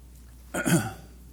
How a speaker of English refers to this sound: I got to get a drink of water.